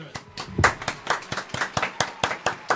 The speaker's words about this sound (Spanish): Oh, un aplauso.